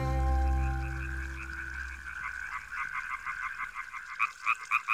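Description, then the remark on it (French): A frog and a toad croak in the reeds of a lapping river in a steady, rapid pulsing chorus, growing louder and more insistent toward the end, with a low rumbling hum fading out in the first seconds. “Madame Grenouille et Monsieur Crapaud font trempette dans les roseaux.”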